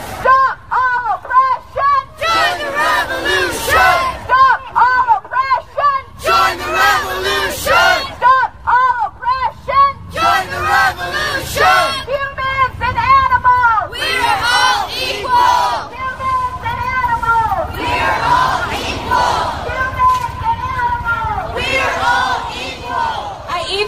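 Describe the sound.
A marching crowd of protesters at the San Francisco March to Close All Slaughterhouses, organized with Direct Action Everywhere, chants "There's no excuse for animal abuse!" in loud, rhythmic bursts, many voices shouting together in unison with brief gaps between phrases, over a steady background of crowd noise.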